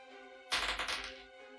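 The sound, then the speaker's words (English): A lot of dice are picked up and rolled, rattling and clattering across a hard surface in a quick burst of overlapping clicks lasting under a second, moderately loud over a faint steady hum, with no one speaking. “I hate hearing him pick up a lot of dice.”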